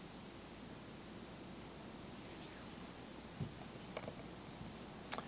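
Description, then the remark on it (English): Heavy rain pours in a steady, dense hiss that never lets up, with a few faint taps and clicks standing out near the end. No one speaks. “It's raining hard, man.”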